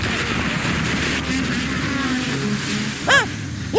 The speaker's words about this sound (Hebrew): הם מתקרבים. אוי לא, אני שומע אופנוע. יש להם גם אופנוע.